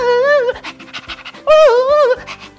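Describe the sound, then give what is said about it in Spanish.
A voice imitates a dog panting: two drawn-out, whiny, voiced breaths with quick, rhythmic huffs between them, loud. “De un carro de bomberos que en lugar de ladrar o de hacer como sirena, siempre hacía...”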